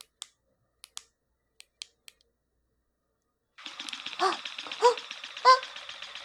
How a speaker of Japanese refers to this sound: ね、すごい動いてる。え、ピストンしてる、すごい。いや、それはピストンバイブだからピストンするけど。え？これ、一番弱くてこれ？あげます。うわ、早い。